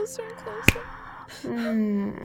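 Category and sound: human body sound, finger snapping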